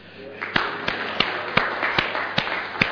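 An audience applauds steadily, a dense wash of clapping with a few louder, evenly spaced claps standing out in a regular rhythm throughout.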